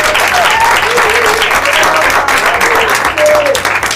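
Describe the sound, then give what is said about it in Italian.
Loud, sustained applause from an audience at the finale of a live broadcast fills the whole stretch, a dense wash of many hands clapping, with faint cheering voices mixed into the roar. “Un applauso ai dinamici per primo.”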